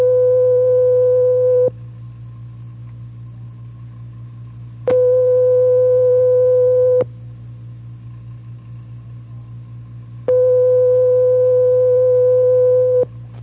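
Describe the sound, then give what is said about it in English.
A steady telephone ringing tone, as heard when calling a number in Germany, France and Spain, sounds in long single bursts of roughly two to three seconds, separated by pauses of about three seconds, over a constant low hum, with no talking. “And if the phone is ringing, you'll hear this.”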